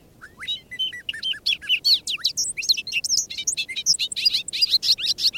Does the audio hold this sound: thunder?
no